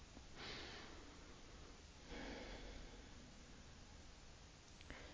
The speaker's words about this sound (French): Je vous invite maintenant à prendre une grande inspiration et à souffler profondément dans l'intention d'installer de la détente en vous. J'inspire et... Je souffle.